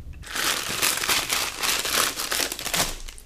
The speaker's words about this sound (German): Jetzt holt sie die ganzen Zettel in einem Glas.